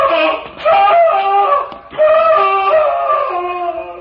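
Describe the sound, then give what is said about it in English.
A man screams in agony: two long, loud, strained wails with a brief break between them, the pitch wavering and sliding throughout, with no speech. “Sounded like a man in mortal agony.”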